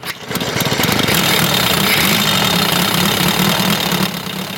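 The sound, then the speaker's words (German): A vintage motorcycle by Danish maker Fiskau Nielsen, a model produced from 1934 to 1959, runs steadily and loudly at a classic vehicle meet on Marktstraße, its rapid low chugging firing pulses continuous throughout with a slight drop in level near the end. “Und das hat auch dieses Oldtimer-Motorrad getan.”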